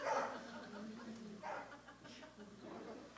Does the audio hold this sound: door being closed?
no